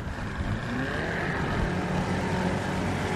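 A small motorboat built almost entirely of teak drones steadily, a continuous low mechanical hum with a slight rough texture and no pauses, filling the whole stretch without any voices.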